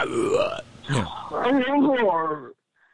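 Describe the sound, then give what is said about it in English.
A man vocally imitates growling caveman noises of eating a bone-in tomahawk or lollipop ribeye picked up by the rib bone: a few rough, burp-like grunts, then a longer wavering, throaty moan that stops abruptly, followed by silence. “Where you've got the whole rib bone still on it, and that beautiful ribeye right on the end, and so you can pick it up like a cave person, and you know, make all those growling white guy on a plane noise.”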